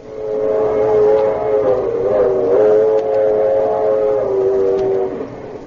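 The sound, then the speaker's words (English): A train whistle sounds a long, loud, sustained chord that wavers slightly in pitch for about five seconds, over the steady rumble of a passing train that is full of passengers. “I was thinking about a train.”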